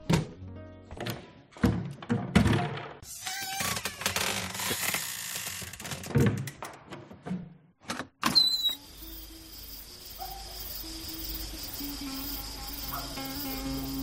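Rattling, sliding mechanical clatter as a balcony door is opened wide in the dark at night, ending in a firm thunk, after which quiet outdoor night air with chirping insects fills the space.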